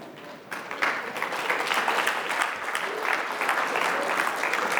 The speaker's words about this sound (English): We're in a clapping mood today, aren't we? Well, thanks for the clapping. We're all clapping to God for all his great stuff that he's given us.